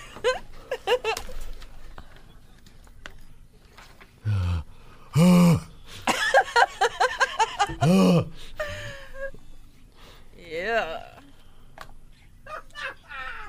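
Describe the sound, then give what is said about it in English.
Wet lip-smacking kisses with loud, heavy breathing, gasps and drawn-out moaning groans, coming in uneven bursts with short pauses between. “No, I like no, the heavy, the kissing, like the heavy breathing, too.”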